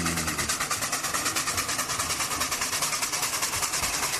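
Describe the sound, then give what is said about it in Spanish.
A steam train chugs along in a fast, steady rhythm of hissing chuffs, loud and continuous over a low rumbling undertone, with no voices. “Bueno, fue la máquina de vapor la que inició la revolución industrial.”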